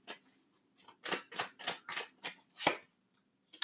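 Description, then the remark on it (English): Tarot cards being shuffled: a quick run of about eight crisp, papery swishes in a steady rhythm, with no voices over them. “Okay, let me shuffle.”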